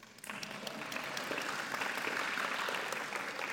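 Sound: round of applause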